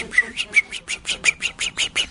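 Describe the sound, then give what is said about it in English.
A voice imitates a small bird's chirping with a quick, even run of about ten high, bright chirps, moderately loud, with no other talking. “Chirp, chirp, chirp.”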